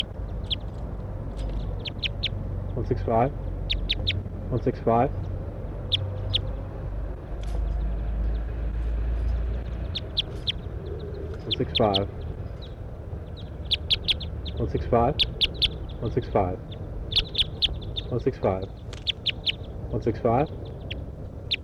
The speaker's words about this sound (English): It's a wild bird here now. A couple of wild birds up in the pine tree. One gave a toop.